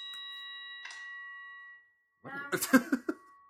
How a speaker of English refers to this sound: I don't like the single bell. That bell is when they ring it when you're going out for communion or something.